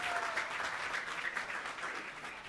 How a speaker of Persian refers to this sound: عالی، مرسی مرسی، تشویقش کردین دوستان.